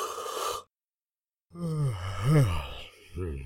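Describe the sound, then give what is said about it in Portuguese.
A voice imitates a bear's yawn: a long, drawn-out, rising and falling groan with breathy texture, fairly loud, ending in a short sigh after a brief earlier breathy sound and silence. “O urso bocejou.”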